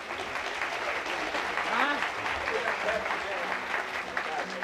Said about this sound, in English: If you don't mind, let's give them a nice hand here this morning.